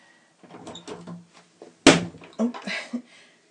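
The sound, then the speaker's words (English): A door opens with one sharp, knock-like clack and a short rattle, amid soft murmured voices and shuffling sounds before and after. “Yes, okay, I'm opening the door.”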